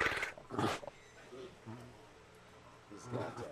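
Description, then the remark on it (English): Two short, breathy snorting puffs from Joaquin, a big white tiger lying down, about 6 feet in body length and around 500 pounds, fairly loud, a tiger's friendly chuff, followed by quieter low murmurs that could be a voice in the background. “And you can almost hear it in his chuff.”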